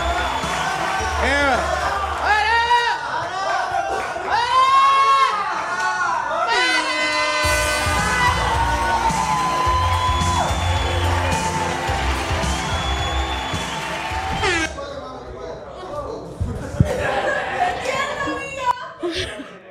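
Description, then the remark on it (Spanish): A live audience cheers loudly, whooping and shouting over a steady wash of applause and crowd noise as the next performer is introduced onstage; it carries on for nearly twenty seconds before settling somewhat near the end. “Fuerte aplauso”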